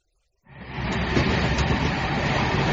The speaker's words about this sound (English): Hello, I'm on the train now. Good, I'm at the station. The train is going up the hill.Now it's going down the hill. It's going past the hospital. Now it's going over a bridge and past the school. Now it's going through a tunnel and under a bridge.